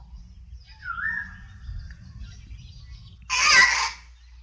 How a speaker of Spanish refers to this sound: Son pericos. Guacamayas.